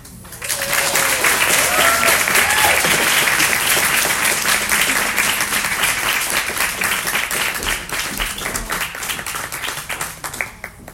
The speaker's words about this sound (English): Let's please give a clap offering